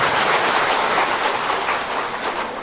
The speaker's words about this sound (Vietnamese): Thầy rất là cảm thấy hạnh phúc khi mà ngày đầu năm này quý Phật tử có thể là có nhiều việc phải không, nhưng mà mình dành một ngày hôm nay để về chùa tu, coi như thôi một tràng pháo tay tự tán thán mình ha.